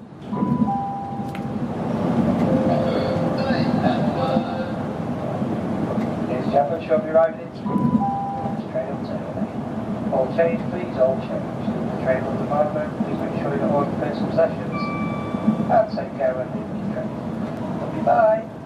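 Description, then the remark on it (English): A train worker's announcement on a train into London: a short electronic chime jingle opens over the steady rumble of the moving train, followed by a muffled announcer's voice, with a couple more two-tone chimes sounding later. “Whilst working on a train into London earlier this week, I played the jingle at the start of my announcement”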